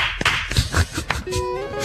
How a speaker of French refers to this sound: Bon, bon, j'applaudis.